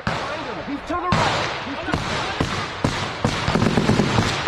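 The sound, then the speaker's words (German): A loud blast followed by bursts of gunfire, recorded on a commander's bodycam during a firefight with Russian forces; the blast is a projectile striking 1.5 meters from a soldier. Sharp cracks come in irregular clusters that grow denser toward the end, with shouting voices mixed in under the noisy, chaotic din. “Nach einer kurzen Feuerpause plötzlich ein lauter Knall.”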